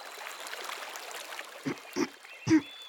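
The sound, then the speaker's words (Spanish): A babbling stream trickles steadily at a soft level, then three louder gurgling burbles of water bubble up in quick succession near the end. “¡Arroyo! ¿Has visto mi canto pasar por aquí?”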